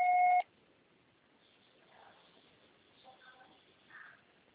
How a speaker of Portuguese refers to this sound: Grave seu recado, você só será tarifado após o sinal. Grave seu recado.